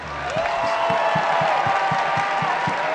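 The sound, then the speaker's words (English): A crowd at a show applauds and cheers in appreciation of the performers on stage, dense clapping with whoops and a rising whistle-like cheer over it, loud and sustained throughout. “So if y'all could please just join me in a round of applause to appreciate these guys here.”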